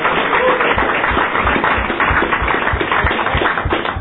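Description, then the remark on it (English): A crowd bursts into a round of applause for students standing up, many hands clapping in a dense, steady patter that stays loud and even for the whole four seconds, with no voices standing out. “Could the students stand up? And let's give them a big round of applause.”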